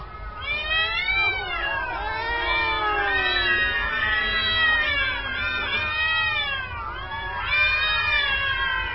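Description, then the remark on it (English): A chaotic chorus of feral cats yowling and screeching over one another, loud, with overlapping wails rising and falling continuously for the whole stretch and no pauses. “Most data indicate that additional Iranian saber-rattling or pipeline protests or some offshore drilling kerfuffle will inspire sounds identical to someone stomping on a bag of feral cats.”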